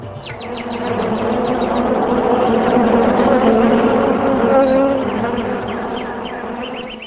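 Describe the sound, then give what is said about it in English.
A dense swarm of bees hums steadily and loudly for several seconds, a thick droning buzz with overlapping wingbeats, occasional faint high chirps above it. “In the trees and green plants, full of flowers and leaves, pleasing to the eyes, birds like cuckoos and swarms of bees began chanting with sweet voices for the sake of the demigods.”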